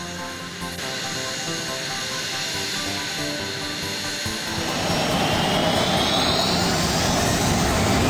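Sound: jet engine running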